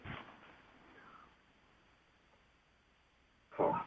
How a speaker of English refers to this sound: My doggie's barking again, so.